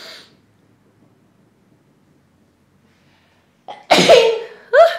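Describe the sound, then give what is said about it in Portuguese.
Nearly four seconds of near silence, then a quick intake of breath and a loud sneeze, followed by a second sharp sneezing burst right at the end. “Eu quero espirrar.”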